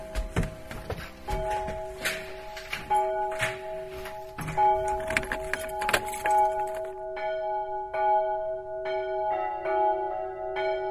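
Large church bells, cast in Bochum in 1919, ring out from the bell tower of a church in Seifen in overlapping, sustained tones, with strikes landing every second or so and long humming overtones hanging in the air. Loud, with no voices.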